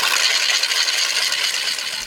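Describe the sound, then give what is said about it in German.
A wooden ratchet rattle cranked in place of the bells, without pause, a loud, dense, bright clatter of rapid clicks that runs steadily for about two seconds with no voices. “Maria hat gesagt, es ist 6 Uhr und haben geratscht, im Platz von den Glocken.”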